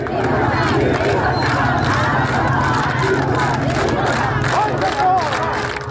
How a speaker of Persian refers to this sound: صدای دیگر اما فریادهای مردم شرکت کننده در مراسم تدفین این دختر جوان بود.